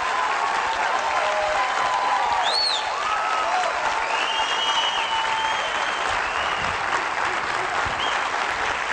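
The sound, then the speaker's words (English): A crowd claps steadily for several seconds in a round of applause for the mayors, a dense, even wash of applause that holds its loudness throughout, with a few faint whistles or cheers rising above it. “Once again, for all of our mayors, let's give them a hand round of applause.”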